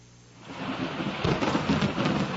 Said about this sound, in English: The thunder crack from above had faded just in time for Anakin to catch the whirring buzz of the Yuzhang Vong weapon arcing in at him.